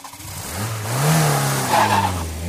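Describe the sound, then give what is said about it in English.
A car engine revs up loudly, its pitch climbing as the vehicle accelerates away with a brief tire screech, no voices present. “Quick, jump into this car.”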